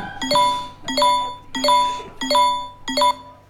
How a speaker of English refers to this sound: Sorry. It's a notification from the state-sanctioned anxiety app.